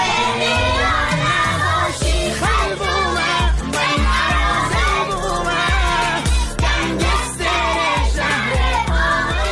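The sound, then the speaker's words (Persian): A class of schoolchildren at a school in Qaem Shahr, Mazandaran, Iran, sing loudly together along with an upbeat recorded song, popular online, that their teacher played for them. Their voices are bright and shouty over a steady thumping beat, energetic group singing in the classroom. “یک ترانه رو که این روزا تو فضای مجازی پرطرفدار شده برای بچه‌های کلاسش پخش کرد و اونها هم همخونی می‌کردن.”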